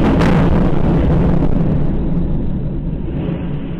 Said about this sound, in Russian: Но выяснилось, что это взрывы, что их слышали по всему городу. И это были первая бомбежка города.